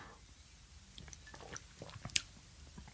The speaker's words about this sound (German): Und ich nehme mal einen Schluck aus diesem fantastischen Glas